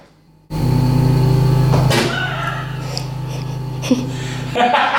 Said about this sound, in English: Oh, no. The fridge. Right, the fridge is mooing. Go turn the fridge off, please. And I'll tell Alexa. Can you hear what noise it makes? I'll grab the mic. Oh, she's taking the mic to the fridge. This is the noise that it makes. I hope it does it now.